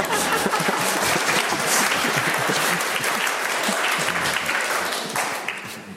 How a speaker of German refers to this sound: Das kann man, pardon, wir tun auch klatschen für das, was ich jetzt...